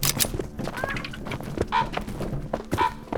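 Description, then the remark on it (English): A few short, chirping bird calls ring out close by at irregular moments, set against a busy outdoor background of rustling and dull thumps. “Not gonna lie, I get the feeling those birds are spying on us.”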